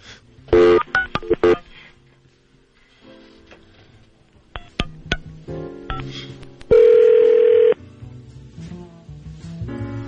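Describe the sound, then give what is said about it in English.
Quick bursts of touch-tone telephone dialing beeps as someone calls the front desk, a few more scattered key tones, then a loud steady tone held for about a second, all clear with no talking. “Should we call back the front desk?”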